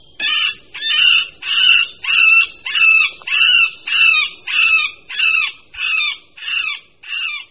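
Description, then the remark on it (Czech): A male middle spotted woodpecker gives its wailing spring call: about a dozen drawn-out, nasal, complaining notes in a steady, evenly spaced series, loud, with no voices. “Na jaře se samec strakapouda prostředního ozývá naříkavými, táhlými zvuky, někdy klesajícími, někdy stoupajícími, které nelze zaměnit s hlasy jiných strakapoudů.”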